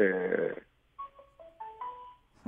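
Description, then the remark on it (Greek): A telephone rings with a melodic electronic ringtone, a string of clear tones stepping up and down in pitch, fairly soft, after a short buzzy rasp at the start. “Χτυπάνε και τα τηλέφωνα, πρέπει να έχουμε και δουλειές, κύριε Δήμαρχε.”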